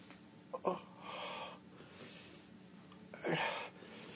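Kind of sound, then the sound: human body sound, gasping breath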